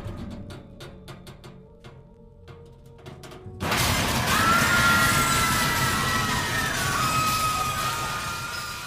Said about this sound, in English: Then the sound of a crash. The elevator had fallen to the bottom of the shaft.